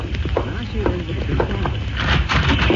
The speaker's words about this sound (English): Listen, huh? Yes, I hear them. Horses galloping.